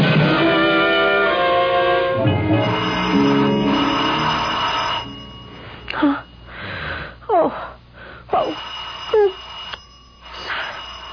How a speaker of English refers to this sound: Someone's at the door. Just a minute! Oh, who could be ringing the bell at this hour?